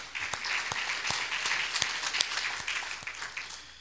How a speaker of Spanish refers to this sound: Vamos a dar palmas al Señor también por ellos.